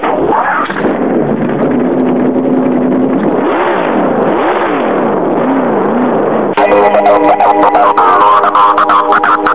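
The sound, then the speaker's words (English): A loud race car engine starts and revs up and down in repeated rising and falling sweeps, then holds a sustained high-pitched roar near the end at full throttle. “Drivers, start your engine!”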